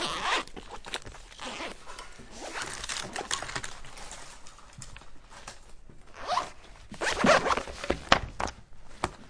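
A pencil case is unzipped during a school lesson in several quick, scratchy bursts, with faint rustling and handling noise between the pulls and a louder final zip toward the end.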